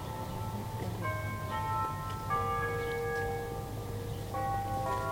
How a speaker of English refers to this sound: You get a concert from your campanile bells. Yes, we do.